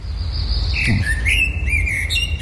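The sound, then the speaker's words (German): A person whistles an imitation of blackbird song: clear, sliding fluting phrases that rise and fall continuously over a steady low background rumble, moderately loud. “Ja, ich kann auch Amsel Sächsisch.”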